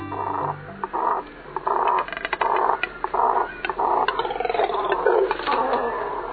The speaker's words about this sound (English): Any guesses what we're hearing? No, not 100-pound frogs. They're birds. These deep, guttural sounds emanate from a nesting colony of double-crested cormorants, large black water birds with short legs and long necks.